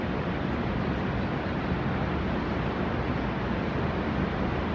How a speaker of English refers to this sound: That's just, it's just spectacular. Like, definitely the best waterfalls I've ever seen in my life. I mean, it's not the highest. Look, it's not actually that high, right?